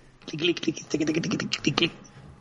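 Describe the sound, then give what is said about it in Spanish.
A quick burst of typing on a mechanical keyboard with colourful backlit keys, rapid clacky keystrokes in an uneven rhythm, fairly loud, seemingly imitated by a voice for about two seconds. “Teclado mecánico.”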